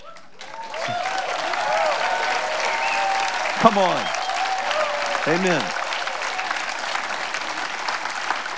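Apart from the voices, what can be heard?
audience applauding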